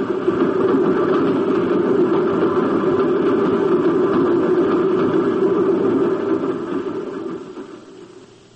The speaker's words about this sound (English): That's right. Good Lord. The powder is aboard one of those cars and the train is a runaway. Yeah. One guesses to what will happen when it hits the end of the track.